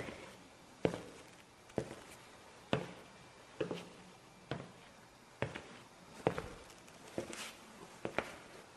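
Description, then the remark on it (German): Ten footsteps walk at a steady, unhurried pace, each step a distinct thud with a slight scuff, clear against a quiet background with no talking. “Also lasst uns nun 10 Schritte auf den Moloch zumachen.”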